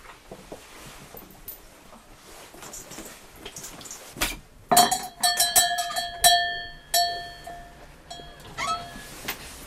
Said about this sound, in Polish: Mamy taki dzwonek, który zamontował dziadek, który wita i żegna gości.